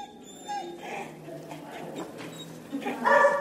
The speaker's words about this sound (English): Now, dogs have been enjoying some modern art at the National Museum of Contemporary Art in Athens.